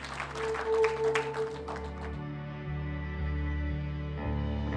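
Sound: church audience applause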